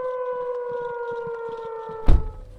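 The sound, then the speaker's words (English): A warning siren in Ocean Shores, Washington, holds one steady, muffled tone, heard from inside a car with the radio on. Near the end a heavy thump cuts in, like a car door shutting. “So now I've moved from outside to inside, have the radio on, and can barely hear the siren.”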